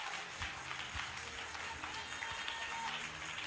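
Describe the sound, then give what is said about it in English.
An audience claps their hands together in a dense, steady burst of applause, with faint voices mixed into the noise. “Oh, you can clap your hands.”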